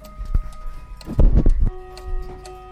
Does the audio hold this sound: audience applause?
no